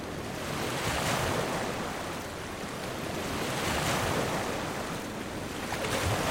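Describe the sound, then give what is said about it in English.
Steady ocean surf washes in and out, with broad hissing swells of breaking waves rising every few seconds over a constant roar, with no voices. “Over and over again. Waves of, well, You know.”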